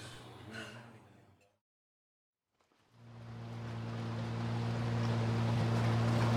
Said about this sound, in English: By 10 o'clock, Anya heard the telltale sound of an approaching motor. She went out on deck and saw a smaller boat powering up to the Seeker.